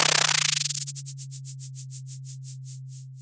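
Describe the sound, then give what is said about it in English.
Sonified data from an echo sounder on a buoy in the North Pacific Ocean, recording zooplankton swimming downward: a steady low hum under a train of hissy pulses that begin as a rapid buzz and gradually slow into evenly spaced beats. “This is what zooplankton swimming downwards sounds like.”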